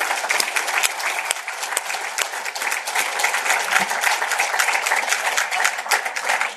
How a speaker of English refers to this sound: Give him a round of applause, too.